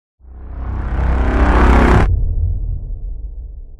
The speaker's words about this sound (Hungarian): Villámlás és mennydörgés.